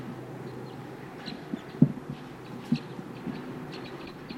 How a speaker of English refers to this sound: So those wild birds are still here calling softly. 258 responds a little bit.